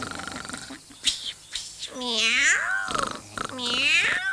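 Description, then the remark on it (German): Two long, wavering tomcat meows, fairly loud, rising and falling in pitch, apparently voiced by a person imitating a hungry cat, preceded by a few soft clicks and rustles. “Hier ist ein hungriger Kater. Der hat Appetit auf Nachtigall und Eule.”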